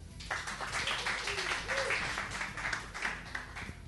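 An audience claps steadily, a dense wash of many hands at moderate loudness, with faint murmuring voices underneath and a few brief higher tones rising through the noise.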